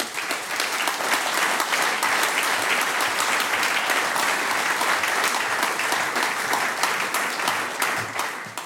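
An audience applauds steadily for about nine seconds as a guest is invited onto the stage for an interview: a dense, even wash of many hands clapping at a constant loud level that tapers slightly at the end.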